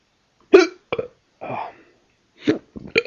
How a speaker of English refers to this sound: Oh, great. Gave myself the hiccups doing that.